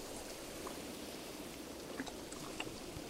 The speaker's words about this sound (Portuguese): Não há ondas, não se preocupe. Você só ouve o som de pequenas formações de ondas quebrando na beira do mar e a água batendo no fundo do barquinho.